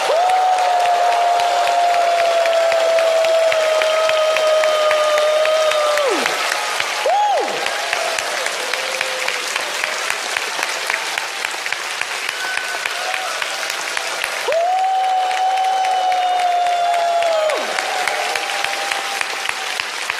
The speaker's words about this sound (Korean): 자, 지금 이 시간 우리 함성, 괴성 그리고 큰 박수로 격려해 주시면 감사하겠습니다.